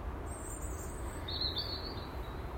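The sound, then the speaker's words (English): Thin, high bird calls trill out against a steady outdoor hush on a calm, dry, very mild December morning, one brief chirping phrase followed by a longer warbling line, fairly soft, with no voices present. “Bird song wise, it is.”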